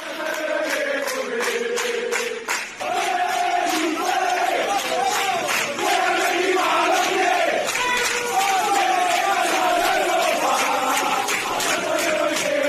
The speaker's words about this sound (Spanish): fijaos cómo sonaba ayer la afición del Betis despidiendo al equipo